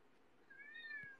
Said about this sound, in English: Yeah, I can hear my cat right now. Not you. Damn. Is Yuki by any chance a ragdoll? Yeah. They're both ragdolls. Yuki and Aki are ragdolls. Yuki is a lilac pointed ragdoll, which means grey.